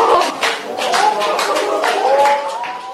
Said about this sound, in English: In other news this week, Russian journalist Arkady Babchenko, who was believed murdered, turned up alive. Gasps rang out from the crowd at a press conference in Ukraine Wednesday.